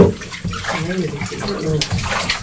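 Water sloshes and splashes steadily throughout, fairly loud, with a person's voice talking over the watery noise.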